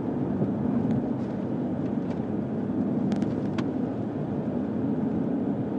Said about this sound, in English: And there is just a train of cars behind me, probably also leaving various pre-order events and what have you.